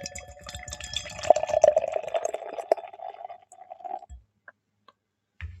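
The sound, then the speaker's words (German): A non-alcoholic Prohibition Ale called The Driver, an orange-brown beer with firm white foam, glugs and splashes steadily into a glass for about four seconds, a rising ringing tone over fizzy hiss, then stops, followed by a few light clinks and a soft knock. “Ja, vielleicht machen wir es erstmal auf und dann reden wir drüber.”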